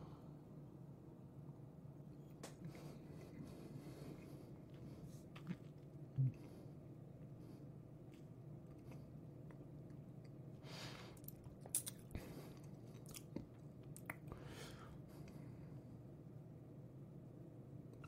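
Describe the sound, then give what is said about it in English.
Quiet mouth sounds of someone taking a second sip of Tomatin whisky matured in ex-bourbon casks: soft slurps, smacks and swallows scattered over a low steady hum, with a small cluster of wet clicks near the end and no talking. “So let's go sip number two.”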